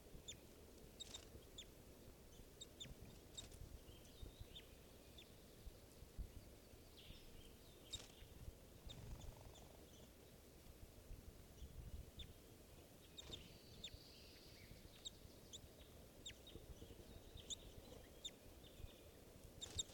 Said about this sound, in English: Birds are chittering, trying to go down to the water.